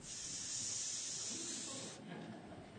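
A steady, fairly loud rush of air hissing out of a deflating balloon for about two seconds, then cutting off abruptly into a faint, softer hiss.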